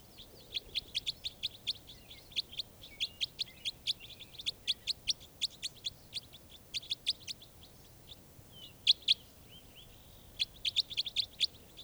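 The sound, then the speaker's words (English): A bird caught in a net gives rapid, repeated high-pitched chirps in quick bursts, with brief pauses between series and a raspy, buzzy edge to some notes. No one speaks. “This is one of the birds.”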